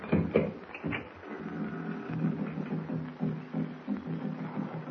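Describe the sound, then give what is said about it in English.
Tom-tom drums of the Narwan tribe beat in the distance, a steady, muffled low thumping that repeats throughout over a faint background hiss, with no voices. “I hear some drums off in the distance. Narwan tom-tom. That's what they are.”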